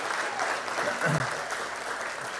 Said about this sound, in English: yeah, you can clap. Yeah.